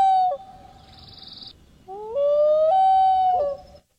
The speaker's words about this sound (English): Is it a bird? It is a bird. It's a bird? All right, I'll give you that. It's a loon. A loon? Very good.